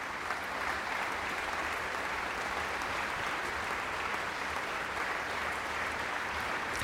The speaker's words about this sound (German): Applaus für das typischste romantische Klavierkonzert in der europäischen Geschichte, so wird es oft bezeichnet. Aber vor allem ist es ein Virtuosenkonzert und hier kommt der Solist und der Dirigent Johannes Klump noch einmal aufs Podium.